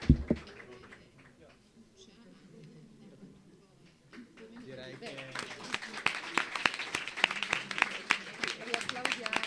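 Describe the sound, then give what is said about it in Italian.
A voice briefly congratulates a student awarded a 1,000-euro scholarship, then an audience breaks into applause: many hands clapping in a dense, steady patter that swells and keeps going to the end. “Direi che per la costanza nello studio meriterebbero l'applauso solo a prescindere, anche a prescindere diciamo dalla borsa di studio.”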